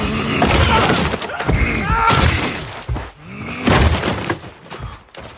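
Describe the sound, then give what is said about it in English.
A giant's head smashing against a wall: a series of loud, crunching impacts with shattering, crumbling debris, three heavy bursts spread across a few seconds. “Great, and now let's hear the giant's head smashing of the wall against that hapless archer.”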